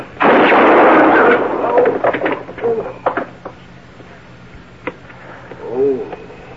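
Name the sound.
gunshot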